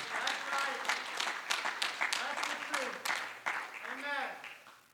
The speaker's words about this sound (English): Come on, would you clap your hands if you believe that today?